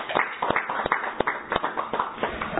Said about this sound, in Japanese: 盛大な拍手をお願いします。